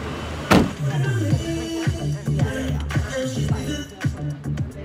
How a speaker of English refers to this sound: She invites our producer to go with her, so they pile into a taxi, hoping to beat rush hour traffic.